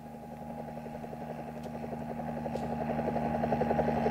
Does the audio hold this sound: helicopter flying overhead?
yes